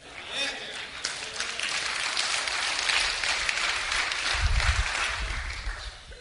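Thin, scattered applause from an audience, a steady patter of clapping that holds at a modest level for about six seconds with a brief low rumble near the end.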